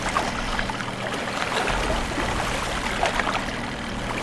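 Water splashes and trickles steadily, a continuous watery churn with small bursts from a fish moving in the water in a video game, over a low steady hum. No one speaks.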